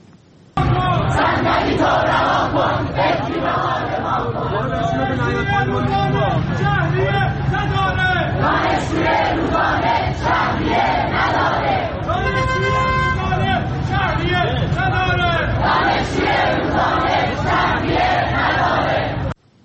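A loud crowd of University of Tehran students, gathered to protest tuition fees for remedial courses, chants in unison, voices rising and falling in rhythmic shouted slogans over constant crowd noise, with no pause for the whole stretch.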